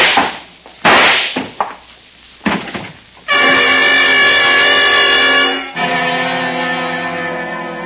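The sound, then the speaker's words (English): A few sharp, cracking gunshot-like bangs ring out in the first seconds, then give way to a loud, sustained harmonic blare that holds steady and shifts once in pitch. “Put away that gun.”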